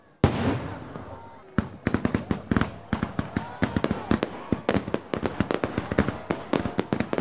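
New Year's Eve fireworks burst in a dense, rapid barrage, a big boom at the start followed by many sharp crackling pops and bangs in quick succession, loud throughout.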